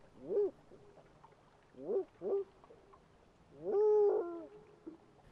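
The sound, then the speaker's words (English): A person imitates a spotted owl's call: one hoot, a pause, two quick hoots, then a longer, drawn-out rising hoot, voiced clearly and alone against a quiet background. “Every biologist who calls spotted owls sounds different.”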